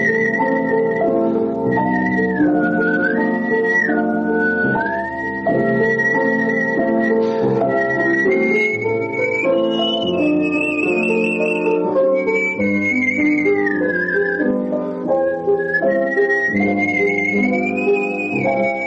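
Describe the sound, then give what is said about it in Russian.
A bright, sustained artistic whistled melody with vibrato glides and leaps above a full instrumental accompaniment, performed loud for the whole passage with no talking. “Я начинал насвистывать и искал какие-то интуитивно приемы.”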